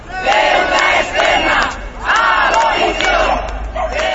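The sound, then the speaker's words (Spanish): A large crowd of protesters shouts together in loud, surging waves, voices rising and falling in rhythmic bursts like chanted slogans, with a steady roar of many people underneath. “En los gritos de los manifestantes y en las reflexiones a voz más baja no faltaron las críticas a las empresas multinacionales del mundo rico y a la existencia de la deuda externa.”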